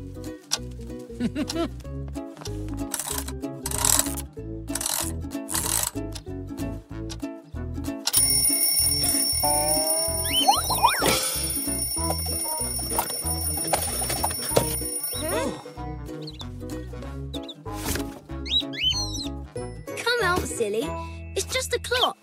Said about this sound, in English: there it is. Ta-da! My old alarm clock. And it still works.